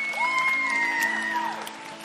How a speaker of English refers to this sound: Yeah, you can clap for that if you want to.